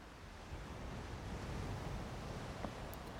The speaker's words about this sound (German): Ich lausche den zarten Wellen, die sich langsam am Ufer auflösen.